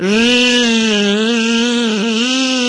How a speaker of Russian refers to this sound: Не успела она еще договорить, как жужжанием налетел мохнатый шмель и прямо к цветочку.